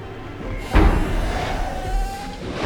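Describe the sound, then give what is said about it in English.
One of the toilet doors on the upper deck of a coach swings open as if kicked, banging with a single heavy thud and slam, followed by a low rumbling hum and faint rattling as the sound settles. “One of the toilet doors swings open as if kicked.”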